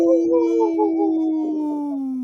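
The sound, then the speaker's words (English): A single long wolf howl, loud, holding a wavering tone for about two seconds before sliding gradually downward at the end. “At this point of the show, we'd like to bring awareness to our Minnesota and Wisconsin wolves.”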